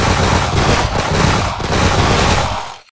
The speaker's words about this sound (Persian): 250 سرباز ایستاده بودند. به صف اول فرمان شلیک دادند. آنها شلیک کردند و نشستند. بلا فاصله به صف دوم فرمان شلیک دادند. آنها هم شلیک کردند و نشستند. صف سوم بدون فاصله شلیک کردند.